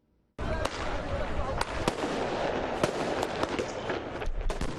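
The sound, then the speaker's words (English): Fireworks launched by protesters at Lebanese security forces crack and pop repeatedly amid a dense, roaring crowd din, with several sharp bangs standing out over the continuous noise of an outdoor street clash in Beirut, Lebanon, on a Wednesday evening as night falls. “Protesters launched fireworks at Lebanese security forces as night fell Wednesday evening during the clashes in Beirut.”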